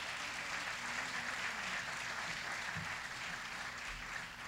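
A crowd applauds steadily, many hands clapping in a dense, even wash of sound that stays loud and sustained for several seconds.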